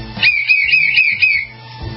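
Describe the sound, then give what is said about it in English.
A single sustained whistle, loud, holding a steady high pitch with slight warbles for about a second before cutting off, with low background rumble beneath. “We'll be right back after a short, brief message with more trivia, more popcorn, and a whistle.”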